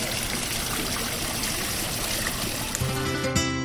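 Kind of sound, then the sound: ambience, water trickling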